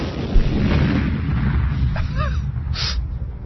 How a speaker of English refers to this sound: Well, made it explode. Yeah. There was explosion. It was a big explosion.